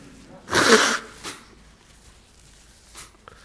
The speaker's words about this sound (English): I'm just going to blow my nose first. This is learning patience while I blow my nose, okay?